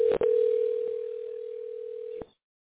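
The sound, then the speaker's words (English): A steady, unbroken telephone dial tone hums for about two seconds while a call is being placed, bracketed by sharp handset clicks at the start and a click as it cuts off, with no voices. “Okay, I'm jumping back on the call phone though.”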